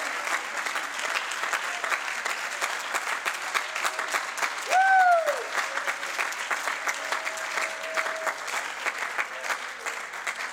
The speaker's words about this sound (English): Oh, clap your hands, son of God. Applaud your king. Applaud your provider. Applaud your maker.